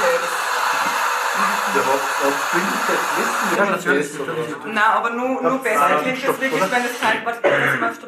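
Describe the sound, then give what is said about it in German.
A steady, loud whoosh of air rushing through the pipe of a pneumatic tube system, recorded from outside the tube, holds for several seconds before people start talking over the continuing hiss. “Nur besser klingt es, wenn das wirklich das Teil da durch die Röhre geht.”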